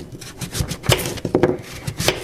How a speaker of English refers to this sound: And so here I am doing an example with the carrots. So I'm peeling my my carrots while my water is boiling. So, and I'll cut it in pieces.